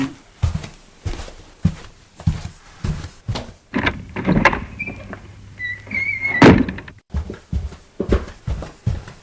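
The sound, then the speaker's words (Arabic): A door is opened to let in an arriving boy, with a series of thumps, clicks and a sliding rattle, followed by a brief squeak and a solid knock near the end. “حسنا، سوف أفتح له الباب.”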